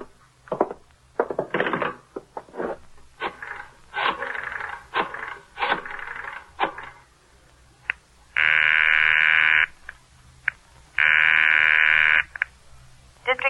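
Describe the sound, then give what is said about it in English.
A telephone is dialed with a series of short clicking and whirring bursts, then two long, steady ringing tones sound on the line, clear, with no one talking. “Where's that phone?”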